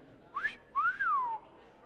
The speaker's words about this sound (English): I could whistle.